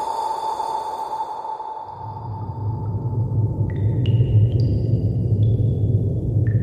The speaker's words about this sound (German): Das Geräusch tropfenden Wassers dringt in mein Bewusstsein.